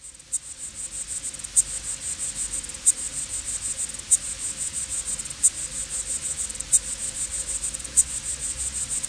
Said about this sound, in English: And so you're rubbing your little whammy bar there and making a great sound. The really interesting thing, if you would like, I can play you a recording. I would love that. Okay, so here is a water boatman singing his song with his penis fiddle.